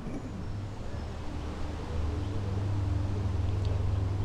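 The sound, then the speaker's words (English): A low, steady engine rumble from an aeroplane drawing nearer, heavier and louder in the second half as it approaches, with no voices over it. “The aeroplane is getting closer.”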